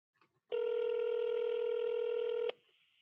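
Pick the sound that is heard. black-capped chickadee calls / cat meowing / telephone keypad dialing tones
telephone keypad dialing tones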